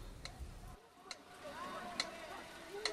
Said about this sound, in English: He puts down his book, then removes his glasses and places them on a bedside table next to a pyramid-shaped metronome, which he sets in motion. The rhythmic ticking appears to soothe him as he rests his head back on a pillow.